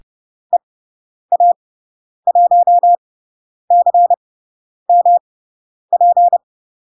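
A single steady-pitched Morse code tone keys out a radio callsign from Spain in clean groups of short and long beeps with pauses between characters, clear with no other sound.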